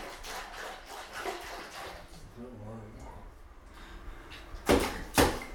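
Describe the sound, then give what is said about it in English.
Two sharp splashes of water in a bath, made by a child at bath time, land near the end, one right after the other, following a stretch of softer sloshing and a brief voice. “Oh, you're doing the splashes.”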